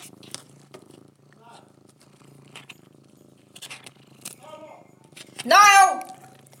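A cat purrs steadily, a low continuous rumble throughout, broken near the end by one loud, sharp meow.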